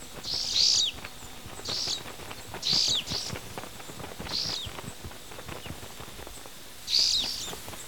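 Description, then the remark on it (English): Short, bright calls of two yellow-bellied sunbirds tending their nest repeat every second or so, five clear chirps high in pitch over a rustling, clattering background, moderately loud. “There's two birds tending to their nest.”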